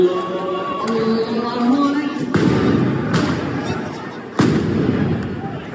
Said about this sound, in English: Police fired stun grenades during evening prayers near Al-Aqsa Mosque on Saturday.